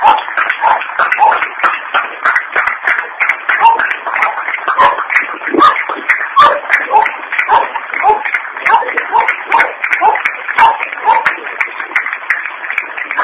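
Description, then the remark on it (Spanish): An audience breaks into sustained, loud applause for a work team of women who care for older adults in the community. Many hands clap in a dense, steady patter that holds evenly for the whole stretch, with a few scattered voices faintly mixed in. “Y un fuerte aplauso para todas estas personas.”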